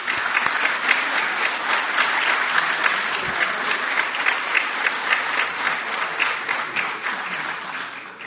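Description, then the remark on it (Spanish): Sustained audience applause for ANEP (Administración Nacional de Educación Pública) as it receives a recognition, a dense steady wash of many hands clapping at even loudness for about eight seconds, with no voices rising above it. “Un aplauso a ellos.”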